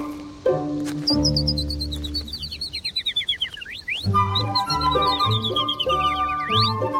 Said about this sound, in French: il y a des pinsons qui ont une petite virgule à la fin, une petite croche